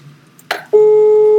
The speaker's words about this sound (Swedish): vi börjar med att ringa upp